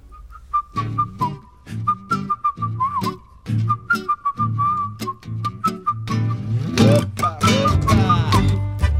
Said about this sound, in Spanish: Era identificable cuando empezaba Malayunta porque arrancaba con este tanguito silbado.